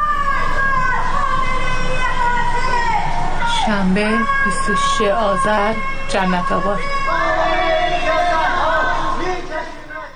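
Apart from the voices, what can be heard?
crowd chanting anti-government slogans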